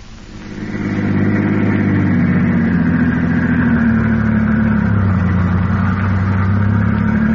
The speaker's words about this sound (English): The two men are now driving in Garrett's car with Peters, alias Harry Gordon, at the wheel.